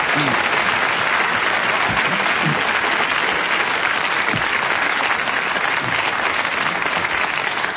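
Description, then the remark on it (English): A studio audience of a weekly contest programme applauds steadily after this week's winner is announced, the clapping dense and sustained at an even loudness throughout, with no voices standing out above it. “So give it a good clap.”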